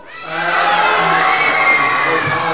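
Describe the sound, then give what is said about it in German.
A crowd lets out a loud, sustained collective scream that rises quickly and holds at full volume for a couple of seconds, many voices blending into one roar with shrill, cheering edges. “Also merkt euch diesen Schrei.”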